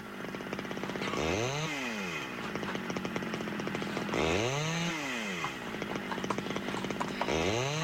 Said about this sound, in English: Oh, I wouldn't bring that horse too close if I was you. Oh, she doesn't mind chainsaws, do you, Brandy?